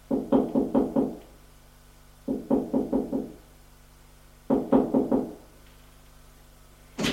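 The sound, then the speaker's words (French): A woman knocks on a door: three quick bursts of firm knocking, each a run of about five raps, separated by short pauses, with no voices. “Elle arrive devant sa porte. Elle frappe.”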